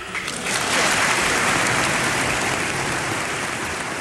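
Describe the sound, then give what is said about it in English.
A large crowd in the US Congress bursts into loud, sustained applause for Mexican president Fox's speech in Spanish, a dense wash of clapping that swells within the first half second and holds steady throughout, with no voices standing out. “Fox even spoke to Congress about it, in Spanish, to rapturous applause.”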